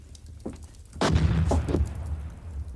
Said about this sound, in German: War das nicht eine Kanone? Ja, da ist wieder ein Sträfling von den Schiffen entwischt.